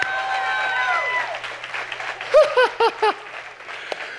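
An audience breaks into steady applause, with a long rising-and-falling cheer at the start and a burst of four quick, high whoops partway through.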